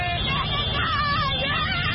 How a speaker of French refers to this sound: Objectif, saluer les champions d'Afrique à leur manière. Parade de centaines de mototaxis. Concert de klaxons. Chants de supporters. Ou plus simplement, cris de joie.